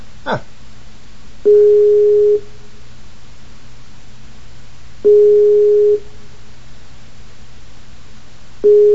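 A telephone busy signal: a steady mid-pitched tone pulsing on for about a second, then off for a few seconds, repeating three times over a low constant hum.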